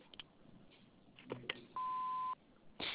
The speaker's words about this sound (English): we're unable to come to the phone. But after the beep, please leave your name and number. Thank you.